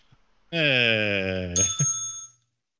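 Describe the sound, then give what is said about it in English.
A bright bell rings once and its high tone lingers for a moment before fading, overlapping a drawn-out, low voiced sound that comes just before it. “Hey, ring the bell.”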